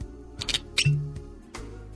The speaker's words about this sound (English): Now let's pop that bottle of wine, red or white.